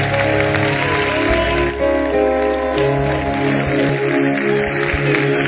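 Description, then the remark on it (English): A church audience claps for Jesus after a prayer, steadily for several seconds, a dense, crackling wash of many hands, with sustained keyboard or organ tones ringing underneath. “Clap for Jesus.”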